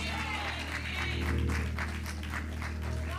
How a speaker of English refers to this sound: Give God a hand clap of praise in this room.